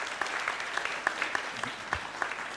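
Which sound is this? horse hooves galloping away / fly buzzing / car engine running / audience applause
audience applause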